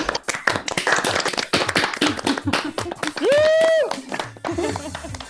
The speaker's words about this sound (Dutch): Ik ga even iedereen unmute en dan kunnen we allemaal tegelijkertijd klappen, oké? Okay? Ja. Als dankje. Oké, okay, klappen.